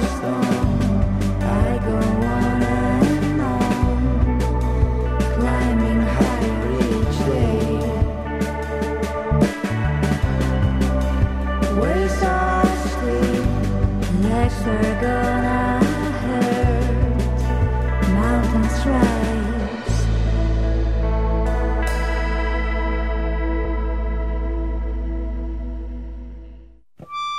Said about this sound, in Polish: Drodzy Państwo, to co słyszycie w tle, to jest muzyka eleganckiej kapeli